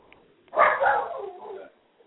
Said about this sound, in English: I hear dogs.